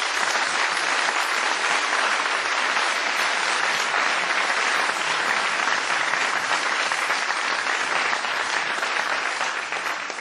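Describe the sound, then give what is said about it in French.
Sustained applause from a large concert crowd for the singer's accompanying musicians, including a pianist, a dense, steady wash of clapping that holds at full strength for about ten seconds before easing slightly at the end, with no one speaking over it. “Je voudrais vous applaudir.”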